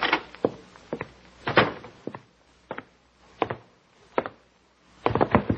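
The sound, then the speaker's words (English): A door is shut with a solid wooden thud, surrounded by a scattered series of knocks and bumps at irregular intervals, with no one talking. “My ruble dropped out of my hand when she pushed me out the door.”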